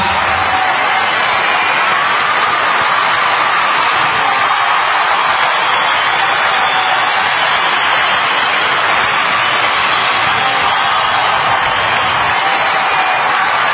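Sustained audience applause fills the whole stretch, a dense, loud, steady wash of clapping with no break and no voices standing out.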